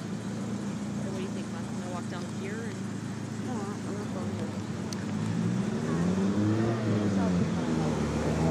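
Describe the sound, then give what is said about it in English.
A DeLorean car drives past, its engine a low steady drone that swells louder toward the end, over constant street noise with murmuring voices in the background. “So crazy, DeLorean just passed by.”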